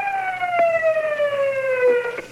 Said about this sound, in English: Call that siren. Uh-huh. That was pathetic. Hell, I can break wind louder than that.